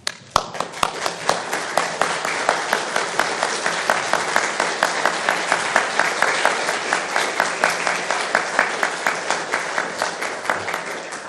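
A standing audience claps steadily for about eleven seconds, dense overlapping applause with a sharp start and a gradual taper near the end.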